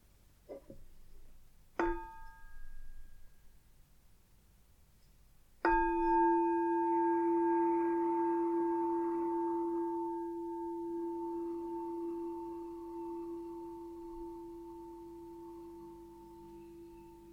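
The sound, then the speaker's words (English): A meditation bell is struck three times: a soft first tap, a clearer second strike, then a loud final ring whose steady, pure tone hums on and slowly fades for over ten seconds. “We're going to start with three sounds of the bell and the usual settling in introduction.”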